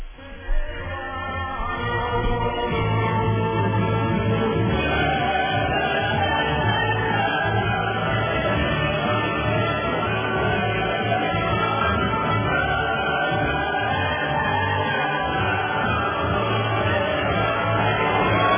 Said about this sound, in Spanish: Bueno, le estamos dando los aplausos a este profesor por su valentía también, por su valentía.